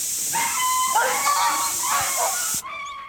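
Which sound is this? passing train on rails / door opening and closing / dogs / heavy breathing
dogs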